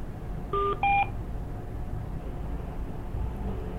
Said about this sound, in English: Okay. And can we ask again? We've had a few beeps.